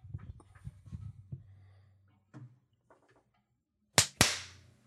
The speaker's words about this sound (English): Okay. Claps. Felt good. Claps, claps, claps.